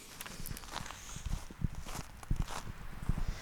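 Footsteps walking outdoors toward the new Opium Atelier by the pond of the Avro Tros building in Hilversum, on a windy, cold early evening, at a steady pace, a run of crisp, fairly loud thuds repeating about twice a second over a constant airy hiss, with no voices.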